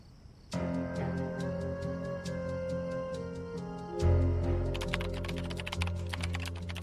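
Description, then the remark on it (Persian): Late-night typing on a computer keyboard, with steady, evenly spaced key clicks that turn into a faster, denser burst of keystrokes over a low background hum. Clear, with no voices. “فیلم ها دیر وقته، اینقدر تایپ نکن.”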